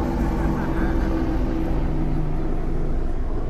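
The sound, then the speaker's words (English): A helicopter drones overhead during a Good Friday church service in a steady, loud, low rumble with a humming engine tone, holding constant for a few seconds with no clear rise or fade. “And if that's you, I'd love you to respond as the helicopter comes, drives over.”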